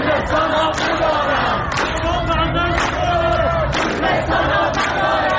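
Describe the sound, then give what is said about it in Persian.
A large protest crowd beside the wall of the City Theatre at the Vali-e Asr crossroads in Tehran, rallying in solidarity with the people of Khuzestan, shouts together, voices blending into a loud, continuous roar with rhythmic surges of chanting against the Islamic Republic and occasional sharper cries rising above the mass. “فریادی که شنبه گذشته در اینجا تنین انداخت، کنار دیوار تئاتر شهر در 4 راه ولیعصر تهران، تجمع اعتراضی برای اعلام همبستگی با مردم خوزستان.”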